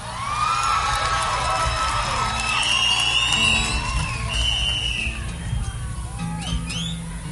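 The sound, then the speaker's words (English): An audience at a live music performance cheers and whoops loudly throughout, with several sharp, sustained high-pitched whistles piercing through the steady roar of applause and shouting voices. “Does the whistle mean you liked it or you didn't like it?”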